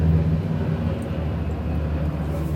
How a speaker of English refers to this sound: You can now really hear the helicopter. He's right above.